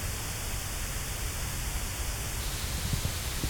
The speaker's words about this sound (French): Vous entendez la fréquence qui sort là? C'est le même bruit rose que tout à l'heure. Mais en écoutant le son échancré, on a augmenté la sensibilité des neurones qui codent pour cette fréquence.